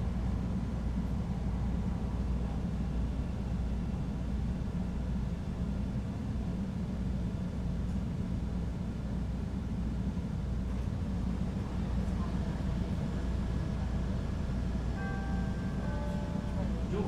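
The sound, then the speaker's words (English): Steady, loud rumble of a Red Line rapid transit train bound for Howard, heard from inside the car, with a constant low roar throughout and faint high whining tones emerging near the end. “This is a red line train to Howard.”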